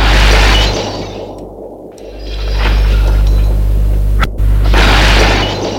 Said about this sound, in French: Elle jette des bouteilles d'alcool à terre. Autour des cadavres.